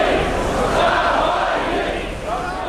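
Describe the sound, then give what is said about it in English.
A large crowd of supporters chants the name Navalny outside Moscow's Vnukovo airport on a Sunday evening in below-freezing temperatures, many voices merging into a loud, sustained roar that rises and falls in rhythmic waves without a break. “The crowd chanted Navalny as they waited for the 44-year-old to arrive from Germany”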